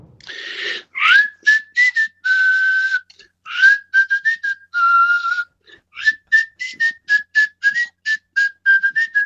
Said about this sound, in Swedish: Kai Kunnas, kan du vissla?